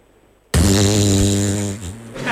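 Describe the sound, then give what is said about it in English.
A loud, buzzy fart sound effect bursts in abruptly and holds for nearly two seconds, its low rasping tone wavering slightly before trailing off, with no talking over it. “So I will be providing, using the arm, I'll have you know, listeners, it's not that kind of show. The farts”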